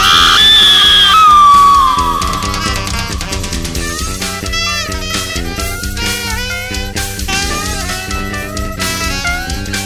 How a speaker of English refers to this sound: Suddenly, a woman screamed!